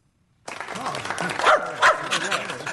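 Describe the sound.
A dog named Amos barks a couple of times in quick succession, fairly loud, over a busy, noisy background with what sounds like murmuring voices.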